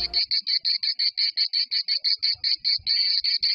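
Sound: cicada chirping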